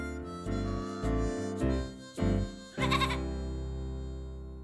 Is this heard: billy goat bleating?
yes